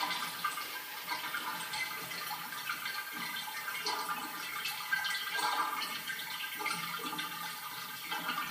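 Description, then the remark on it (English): A toilet flushes, with water rushing and swirling down the drain in a steady, hissing stream that lasts several seconds at moderate volume, with no voices. “It's going down the drain.”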